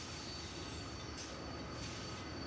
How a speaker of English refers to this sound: Orange tank car next. Yellow hopper car. Green cattle car. Blue gondola car. Purple box car. A black tender and a black steam engine. Freight train.